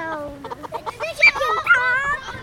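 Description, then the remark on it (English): Several chickens cluck and squawk at the school mini farm of Marnie Simons Elementary in Hamburg, southwest Iowa, their short overlapping calls rising into higher, drawn-out cackles toward the end, with a little faint background noise beneath. “Students are building chicken coops and sheep pens right next to their playgrounds.”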